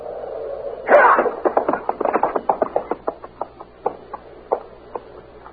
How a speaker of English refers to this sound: I'm going to slap that horse out from under him. You ready?